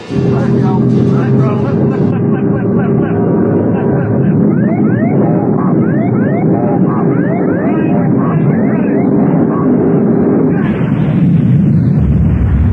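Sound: plane crash explosion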